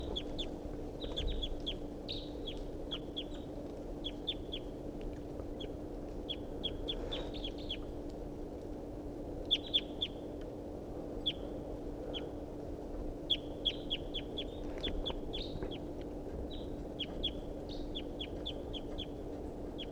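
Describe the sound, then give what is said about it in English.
A wild bird calls over and over in quick bursts of short, high chirps, pausing between clusters, above a steady low background hum with no talking. “Start recording the wild bird.”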